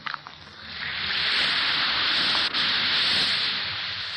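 An Alka-Seltzer effervescent antacid tablet fizzes in water: a few small clicks at first, then a steady, bright, hissing crackle that swells within a second and holds on evenly, with no voices.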